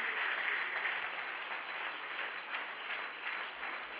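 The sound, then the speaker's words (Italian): An audience applauds for Jesus, a dense, steady wash of many hands clapping that holds at a fairly even loudness for about four seconds without any voices on top. “Oh, e se per Gesù, fallo forte questo applauso, forte.”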